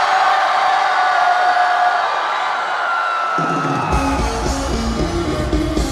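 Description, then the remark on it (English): A large crowd, told to scream on a count of three, screams at full volume in a sustained, dense roar, then deep rhythmic music kicks in underneath around the fourth second while the screaming continues. “On the count of three, I want you all to scream so loud that the whole world hears us, okay?”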